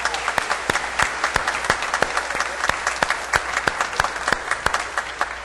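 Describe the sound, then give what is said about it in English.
A round of applause for graduates at a service: many hands clapping in a dense, steady patter with sharp individual claps standing out, sustained for several seconds, with no voices on top. “So let's give a big round of applause to all of our graduates.”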